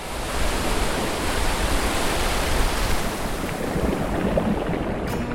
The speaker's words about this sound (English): My favorite thing about the ocean is the sound of the waves.